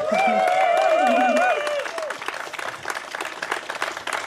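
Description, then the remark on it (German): A crowd at a triathlon gathering on 8 July 2024 applauds and cheers in welcome, with bright whistles and whooping voices rising over dense clapping at first, then the cheering fades and steady, loud applause continues. “Was für ein Empfang.”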